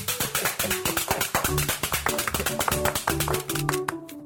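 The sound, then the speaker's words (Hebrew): A group of children applaud a correct answer in a Purim game, clapping their hands together in a quick, steady rhythm. The sharp slaps are loud and continuous for several seconds, with some faint voices mixed in underneath. “כפיים, הוא צודק.”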